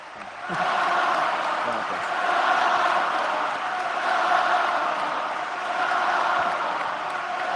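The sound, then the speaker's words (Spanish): A large crowd in the Carpena arena gives Rafa Nadal a standing ovation, a dense wall of cheering and voices that swells and eases in waves without ever dropping away. “Sigue ovacionando en pie todo el Carpena y no dejan hablar a Rafa.”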